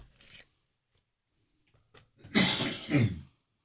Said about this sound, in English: Boy, I got a cough this morning. A cough? Yes.